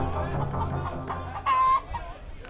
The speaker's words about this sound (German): Hühner gackern in Käfigen.